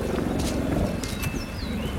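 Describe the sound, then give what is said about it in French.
A helicopter in the Pyrenees makes a steady, throbbing low rumble that fills the whole stretch at an even loudness, while a few thin, high bird chirps slide in and out above it. “tu vois qu'on parle du son de l'hélicoptère qui est là”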